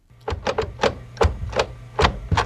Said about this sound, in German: So habe ich schreiben gelernt. Nicht mit dem Stift, sondern mit der Blindenschreibmaschine. Sie sieht so ähnlich aus wie eine alte mechanische Schreibmaschine. Sie ist nur noch klobiger und schwerer.